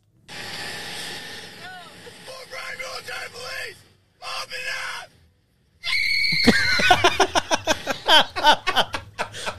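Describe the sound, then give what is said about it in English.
A man's loud, high-pitched shrieking scream from a video of a military man bursts out after a few short vocal outbursts and pauses, then breaks into rapid, choppy cries. “It's just a high pitched girl scream.”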